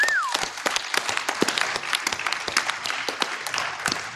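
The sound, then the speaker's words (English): An audience applauds steadily, a dense patter of many hands clapping at once with sharp individual claps poking through, sustained for several seconds at moderate volume. A brief whistle rises at the start. “Clap it up”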